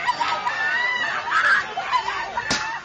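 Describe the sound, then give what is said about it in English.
A woman screams in anguish at an anti-Japanese protest in the city of Xi'an, China, after her husband was attacked with a bicycle lock. It is a loud, strained, wavering cry that carries on without a break from start to finish, with a sharp smack near the end. “A woman screams in anguish.”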